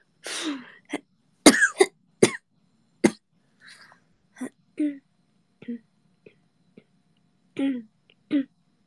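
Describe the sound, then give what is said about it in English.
Someone clears their throat over and over, a string of short, harsh bursts at irregular intervals, loudest at first and then quieter, with no talking. “I kind of need to actually clear my throat.”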